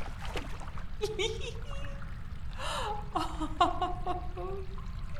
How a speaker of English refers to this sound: So, you really like this then? When I rub my hands across your body, when I hold you close, pouring the hot water over your skin.